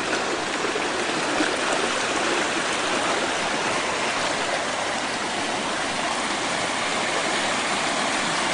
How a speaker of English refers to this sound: You can see when you step on the ground, water will just run out. We can barely have a place to walk here. And the creek has become very wide here.